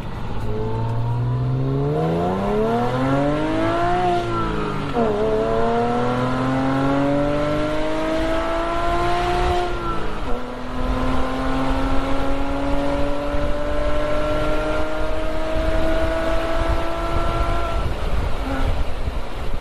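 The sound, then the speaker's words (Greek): The loud air-cooled 3.2-litre boxer engine of a 1989 Carrera cabriolet sports car revs and accelerates, its pitch climbing steadily and dropping sharply at two gear shifts before rising again. It runs continuously, with no talking. “Εγώ κατόρθωσα και έκανα το όνειρό μου πραγματικότητα, το 1989, έχοντας την καρέρα την κάμπριο με το 3,2 το κινητήρα Boxer.”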